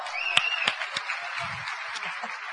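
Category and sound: crowd, audience applause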